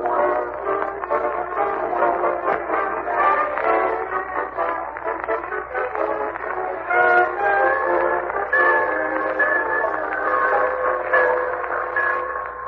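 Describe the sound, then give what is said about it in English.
A train rumbles steadily through the busy Summerfield Railroad Station, and in the second half a sustained, high whistle sounds over the noise. Nobody speaks. “Now let's visit our friend, the Great Gildersleeve, as he and Marjorie and Leroy wait in the Summerfield Railroad Station”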